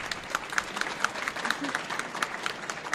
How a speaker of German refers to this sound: Erstmal Ihr Applaus.